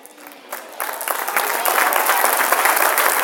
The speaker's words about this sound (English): Oh, clap your hands, all ye people.